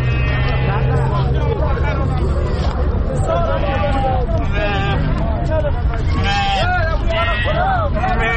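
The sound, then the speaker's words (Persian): Sheep bleat repeatedly and overlap one another amid a busy, noisy crowd, with constant chatter and hubbub from many people at a steady, loud level, at a livestock market in the Chamand area, where the sheep, brought from Bamyan province, are for sale. “ما هم یکنون با یکی از برادران صحبت داریم که اینا یک تعداد از گوسفندا را در اینجا در منطقه چمند حضوری برای فروش آوردن.”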